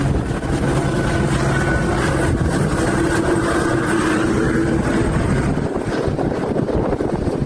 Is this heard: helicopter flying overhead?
yes